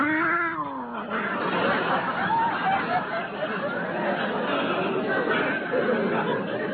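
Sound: cat yowling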